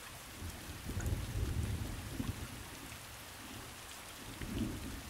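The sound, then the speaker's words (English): Slow, steady rain falls continuously with a soft, even hiss, while gentle low rumbles swell underneath now and then. No voices, just the rain. “I love these slow, steady rains, especially early in the mornings when no one is around.”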